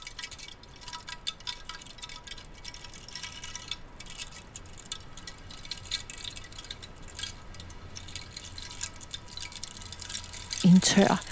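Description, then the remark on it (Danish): Water drips steadily and irregularly in a quiet forest, with many small drops over a soft background hush. A brief voice-like sound appears near the end. “Pipler, drypper, helt klart og fint i skoven.”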